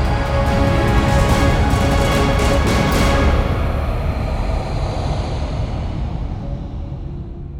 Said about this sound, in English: In the afternoon sky, the sound of the approaching aircraft rose above the sea breeze, a steady drone. Nothing to see. No, there it was. Small to make that much noise.